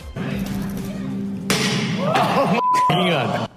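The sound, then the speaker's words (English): A single loud crash of the window of Tesla's new pickup truck being smashed at its unveiling cuts through a murmuring crowd, followed by startled voices reacting. “Tesla shares like the window of that truck getting smashed today.”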